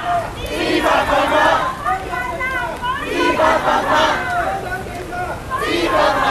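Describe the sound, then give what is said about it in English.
A large crowd of protesters in Hong Kong chants loudly in unison at police guarding the entrances, shouting "triads" and "unlawful police" in repeated rising waves every few seconds, with a steady murmur of crowd noise underneath. “Here are some protesters I recorded chanting at the police who were guarding the entrances.”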